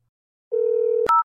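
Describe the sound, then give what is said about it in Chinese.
A telephone ringback tone hums steadily for about half a second, then cuts off with a sharp click as the line connects, followed by a brief higher electronic beep. No voices. “我电话可是要快通了呀。”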